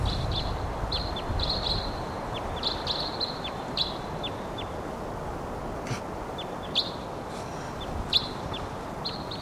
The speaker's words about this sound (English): Wild bird.